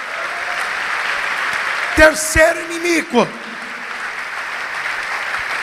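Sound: audience applauding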